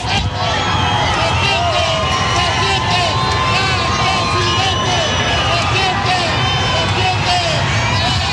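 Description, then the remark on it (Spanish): A crowd of people shouting and cheering as José Antonio Kast passes and greets them: a dense, loud wash of many overlapping voices with rising and falling calls, steady throughout without pause. “Escuchamos un poco el ambiente también de la gente gritando.”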